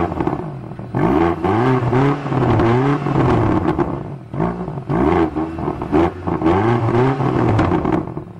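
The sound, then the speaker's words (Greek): A BMW XM car engine revs repeatedly, rising and falling in pitch through several loud blips separated by brief pauses, with a deep rumbling tone between bursts. “Αυτή τη στιγμή έχουμε μία XM, η οποία είναι σε μία άλλη φιλοσοφία και σε μία άλλη κατηγορία. Τι θόρυβο κάνει αυτό το αμάξι, ναι.”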